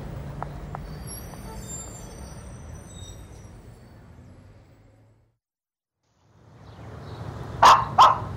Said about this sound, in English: Would you shut that dog up before we're all caught? I'd lock her up in the house.